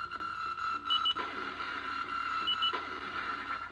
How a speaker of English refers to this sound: And this is MIDI. The weird thing is that it has a little bit of reverb on it, which makes no sense to me. Here we go.